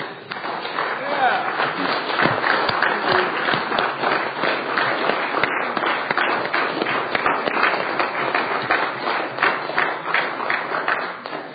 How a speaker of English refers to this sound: You know, I'd like to thank Senators Meyer, Peterson, Townsend, Massey. If you'd give them a round of applause, they did a lot of work on this budget.